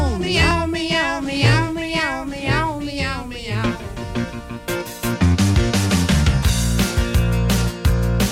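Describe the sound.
A voice imitates a cat, giving a quick run of sliding, sing-song meows over a musical backing, then a loud beat-driven music section takes over.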